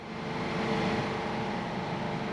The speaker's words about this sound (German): Das ist so das Geräusch der Klimaanlagen, was ich definitiv nicht vermissen werde, wenn ich jetzt nach Hause fliege.